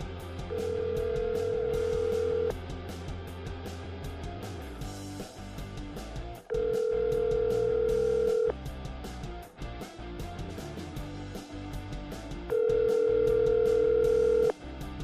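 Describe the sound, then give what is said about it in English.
A telephone call to a Chargers correspondent rings out: three steady, mid-pitched ringback tones, each lasting about two seconds with roughly four-second pauses between them, sounding over a busy background bed. No one answers. “Oh, tried to call our Chargers correspondent”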